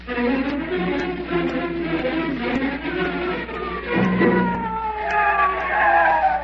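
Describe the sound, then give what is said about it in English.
A police car skids to a stop out front of a house, tires squealing in long, sliding whines over a rumbling engine. It is loud throughout, with no one talking. “Oh, my, there's a police car out front.”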